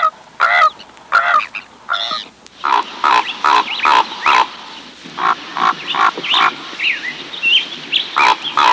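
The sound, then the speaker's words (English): Ravens croaking over and over, a steady run of harsh, hoarse calls, fairly loud, with faint chirps of other birds in the background. “And ravens croaking.”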